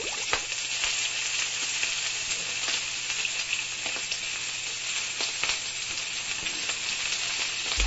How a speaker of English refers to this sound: Oh, man, it's hot out there. So hot, my bacon is frying.